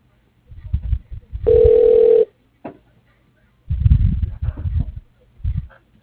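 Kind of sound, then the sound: signal or alarm, telephone call ringing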